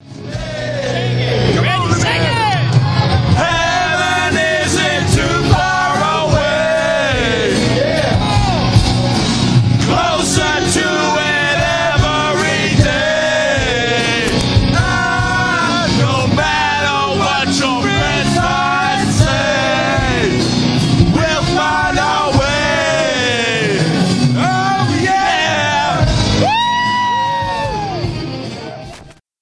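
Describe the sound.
A crowd of voices sings together loudly and continuously, with wavering melodic lines, shouts and whoops rising over a dense, noisy background for the whole stretch.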